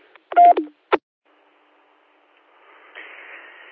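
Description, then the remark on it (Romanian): A short electronic end-of-transmission beep sequence on a radio: a brief tonal chirp followed by a sharp click, then quiet, ending in a hiss of static as the channel opens. “Deci, Roger Bipai, sau mă rog, acolo, ton de încheiere.”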